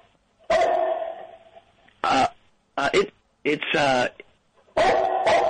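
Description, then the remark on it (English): A human voice imitates a dog barking: a run of five loud, gruff bark-like bursts with short pauses between them, the first one drawn out and throaty. “Your dog, I gotta say, your dog sounds a lot like my dog barking.”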